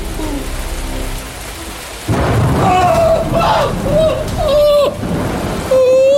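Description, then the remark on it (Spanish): Deep thunder rumbles in a hailstorm beneath steady pouring rain, swelling into a louder crash partway through, while a high, wavering tone drifts over the storm. “¡Y estos truenos tan aterradores!”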